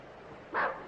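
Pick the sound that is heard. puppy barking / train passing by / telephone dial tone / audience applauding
puppy barking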